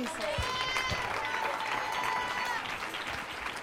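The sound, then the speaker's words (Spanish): Steady, dense applause from a large group, many hands clapping at once in a continuous loud wash, with faint voices calling out underneath; the applause is given to the Lord Jesus Christ after a prayer. “Si ese aplauso es para mí, if that hand clap is for me, it's all right.”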